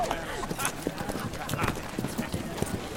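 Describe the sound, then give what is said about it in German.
Horse hooves clip-clop in a quick, uneven rhythm as several riders' horses move together during a hunt, with people talking over the clatter throughout; Captain Middleton turns his horse and gallops with the Empress down the valley-side slope. “Captain Middleton wendet sein Pferd und galoppiert mit der Kaiserin auf die talabwärts gelegene Seite.”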